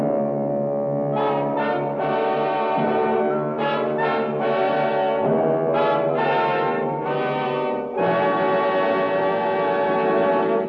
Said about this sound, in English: listening to the foghorn and the beat of the ship's engines, when... Well, I couldn't see a thing. I ran in the direction of the sound.